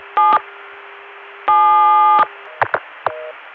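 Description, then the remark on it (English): Bursts of multi-frequency telephone signaling tones, dialed over a noisy phone line to stack trunks and add links to a connection: a short blast, a longer sustained chord, then several quick clipped tones, all muffled. “If you're going to do stacking, in most cases, you are limited by the fact that your tones can only get so far down the line before the equipment at the distant end can't hear you anymore.”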